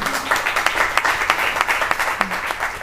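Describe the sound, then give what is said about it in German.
A steady burst of audience applause welcoming a guest, an SRF football commentator, many hands clapping in a dense, crackling wash that holds at a fairly loud level for a few seconds with no talking over it. “Applaus, das haben wir sonst nie.”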